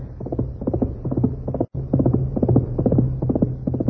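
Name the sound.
horse galloping hoofbeats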